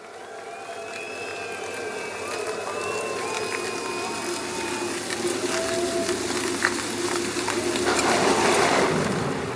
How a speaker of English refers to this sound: Once that thunder and that rain starts and the lights go down, people definitely know what time it is.